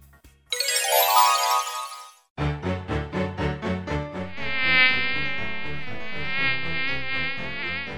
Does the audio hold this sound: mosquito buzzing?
yes